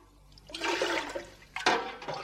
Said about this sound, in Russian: Давай-ка, давай-ка ведерко еще холодной воды зачерпни-ка, а?